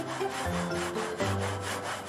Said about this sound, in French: C'est une scie dite alternative. Et elle nous date du début du XXe siècle, très exactement de 1905. Donc une belle bête. Hein. Donc c'est tout, tout un corps en fonte et on voit qu'il y a plusieurs lames.